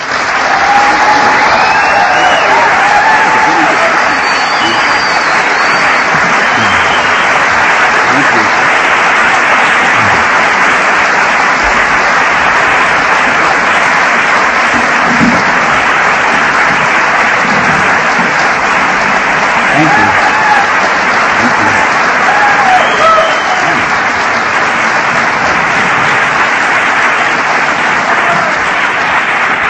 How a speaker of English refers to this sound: Thank you. That was so nice. Sometimes it gets embarrassing when the applause are longer before the talk than after.